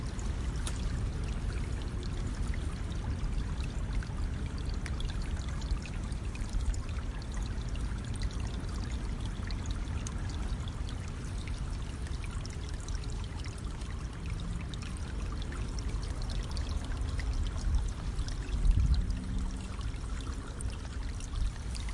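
A gently flowing stream burbles steadily and continuously, a soft, even wash of running water at moderate volume with no voices or other sounds over it.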